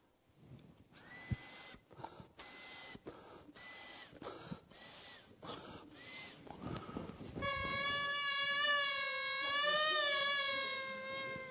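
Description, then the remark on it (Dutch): A symphonia, a goatskin bagpipe, sputters through a series of short, squawking bursts, then settles into a loud, sustained reedy drone with a wavering melody on top, played alone with no voices. “Maar ze kwamen terug met dit, en dit is een symfonia, heet dat.”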